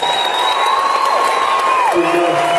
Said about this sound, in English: And a big round of applause for this orchestra this evening.